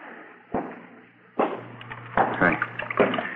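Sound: water running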